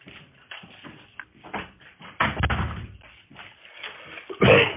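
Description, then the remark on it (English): Shuffling and movement noises lead up to a door being pushed shut, with a fuller thud near the end, moderately loud, with no talking. “I want to shut my door. It got open.”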